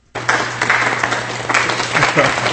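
A burst of crowd applause starts abruptly and holds steady, a dense wash of many hands clapping at once, loud, with a low steady hum underneath.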